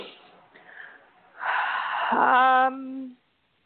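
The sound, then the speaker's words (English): A loud breath drawn in deeply, rushing and airy for over a second, ending in a short voiced, sigh-like tone before silence. “Okay, I'm breathing that in.”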